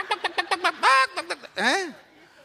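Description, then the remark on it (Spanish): In a church, several voices mimic chick peeping: a quick run of short high chirps followed by two longer rising and falling calls, loud, with the tone of playful vocal imitation. “Águila, yo lo que oigo es pío, pío, pío, pío.”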